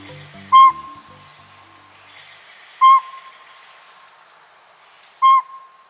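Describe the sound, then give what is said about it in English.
A pint-sized, rufous brown northern pygmy owl, not much bigger than a pine cone, hoots from a northwest treetop on a winter morning: three evenly spaced, clear single toots, each short and piercing, separated by about two seconds of quiet, with faint background hiss and a brief low murmur at the start. “A pint-sized northern pygmy owl, not much bigger than a pine cone, hoots from a northwest treetop on a winter morning.”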